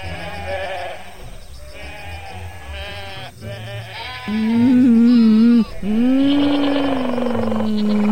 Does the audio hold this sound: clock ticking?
no